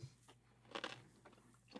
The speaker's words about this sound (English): I'm going to bite into the pickle and you're going to hear it. I did not use the pickle during most of this audio, just FYI, but I'm going to totally crunch into it now. That's my supper.